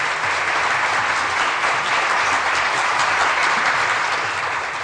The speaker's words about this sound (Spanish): ¡Felicidades! Y un aplauso.